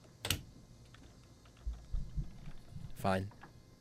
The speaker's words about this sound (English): The NCIS style, like, clickety clack of the keyboard as you're hacking into the mainframe was a nice touch, though.